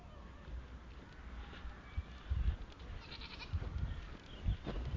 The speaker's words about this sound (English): Shut up, goat.